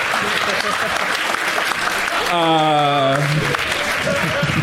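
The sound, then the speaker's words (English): A live audience applauds with steady, dense clapping that fills the whole stretch, and a single voice briefly rings out above the crowd partway through. “Fuck all of you for applauding that joke.”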